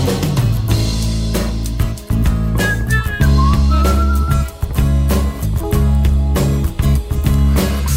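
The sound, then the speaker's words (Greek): A short whistled melody rises over a loud, busy music track with heavy drums and bass, lasting a second or two before the band carries on alone. “Μα δεν το βρίσκω και σφυρίζω.”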